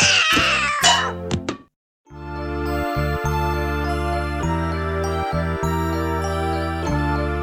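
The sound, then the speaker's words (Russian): A cat meows several times in quick succession, loud, then after a brief silence a sustained, steady musical tone with chords takes over until the end. “Нет, напрасно мы решили прокатить кота в машине. Кот кататься не привык, опрокинул грузовик.”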